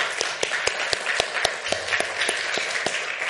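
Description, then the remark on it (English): An audience at a church applauds for a few seconds to thank people, a dense steady patter of many hands with sharper, evenly spaced claps cutting through on a regular beat, at moderate loudness and without any talking. “So why don't y'all give them a round of applause?”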